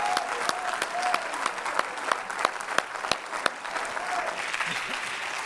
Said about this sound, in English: Oh, if you love him, clap your hands unto him and bless his name.